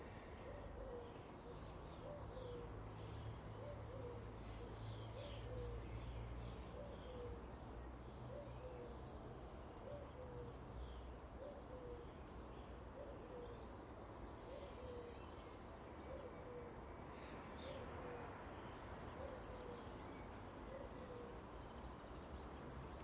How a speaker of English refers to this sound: Is that a cuckoo? Is that a cuckoo? It sounded like a cuckoo, didn't it? I've never heard a cuckoo up here. Never ever heard a cuckoo in Scotland. I suspect it's just a turtle dove mimicking a cuckoo.